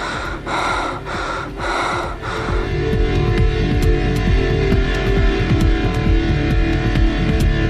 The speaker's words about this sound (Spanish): De subir y bajar tengo mi vida pendiente. Cuando el fuelle se detenga, se acabará mi suerte. Es la respiración.